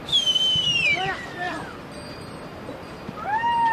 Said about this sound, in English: A dozen yaks lumber across a narrow bridge, swinging gently over a river canyon in the Khumbu. Herders urge them on with whistles and shouts.